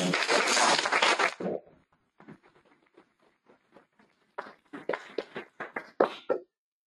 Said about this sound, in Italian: Un applausino.